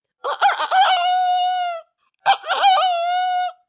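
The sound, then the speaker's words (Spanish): A rooster crows twice in a row, each call loud, opening with a few choppy notes before stretching into a long, strained, drawn-out cry. “Un poco más adelante, el burro, el perro y el gato oyeron a un gallo que cantaba.”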